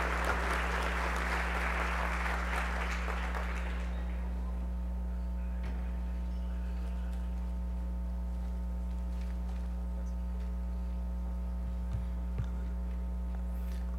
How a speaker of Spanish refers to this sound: Por favor, un caluroso aplauso, si fuesen tan amables. Representante de UNICEF.